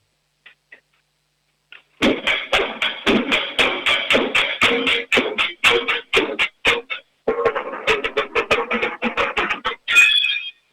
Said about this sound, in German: Hast du deine Trommeln irgendwo jetzt in der Nähe? Ja. Ja, dann trommel mal was für uns.